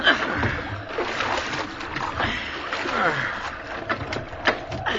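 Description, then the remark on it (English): Water sloshes and splashes steadily around a small rowboat at sea as the crew bails it, with repeated scooping splatters, while voices murmur faintly underneath. “Bail here, Cook.”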